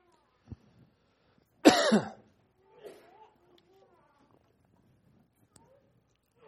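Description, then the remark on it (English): A loud, harsh cough bursts out, followed by a quieter bout of throat clearing and a few faint clicks and murmurs amid otherwise hushed surroundings. “Someone has a cough drop, I'd take it too.”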